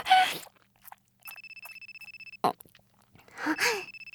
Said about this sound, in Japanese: 電話かかってきちゃった。